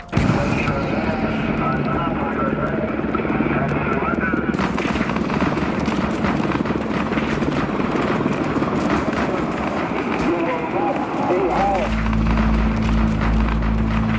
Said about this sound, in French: Un hélicoptère de la garde nationale commence par lâcher des gaz lacrymogènes